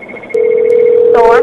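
A telephone rings with a steady, loud electronic tone that starts abruptly and holds without pause, with faint clicks and a short burst of voice over it near the end.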